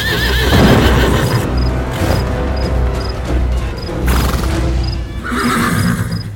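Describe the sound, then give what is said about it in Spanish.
A saddled horse, Sultán, wearing an American-style saddle, whinnies loudly, its wavering cry rising over a steady rhythm of hooves clopping on hard ground, with a few sharp knocks mixed in. “La silla que llevaba el caballo era de tipo americano.”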